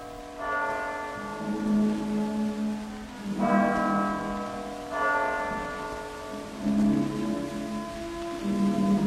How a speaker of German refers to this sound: Das 1 Uhr Läuten der Kirchturmuhr hört er schon nicht mehr.